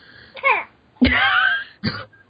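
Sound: baby coughing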